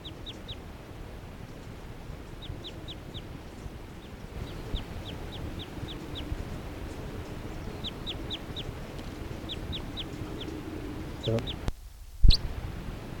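A yellow male bird calls in short, high, repeated chirps, grouped in quick bursts of three or four, over a steady wash of outdoor background noise, with a sharp knock near the end.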